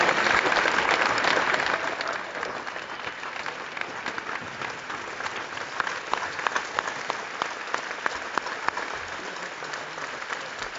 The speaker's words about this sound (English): Ladies and gentlemen, how about a round of applause for our head basketball coach, Konzo Martin.